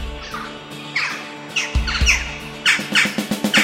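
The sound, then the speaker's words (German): A crow named Sophie caws repeatedly in harsh, squawking bursts, the calls coming faster toward the end, heard over a low hum of background sound. “Doch Krähe Sophie hat alles gesehen.”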